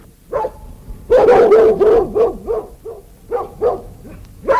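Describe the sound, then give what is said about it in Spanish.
Several hunting dogs bark and yip excitedly in quick, overlapping bursts, loud, like a pack in full cry while flushing a deer on a hunt, with a brief lull after the first barks. “Y los perros levantaron un ciervo hermosísimo, al que siguió hasta que se perdió en el bosque.”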